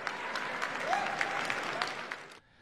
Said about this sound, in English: You heard the president pounding on the podium there to end this war. The crowd cheered, and for a moment, as AP describes it, the war did not seem like it was dividing the party at all.